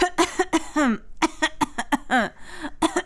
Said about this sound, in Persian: این هم سرفه خاله جان.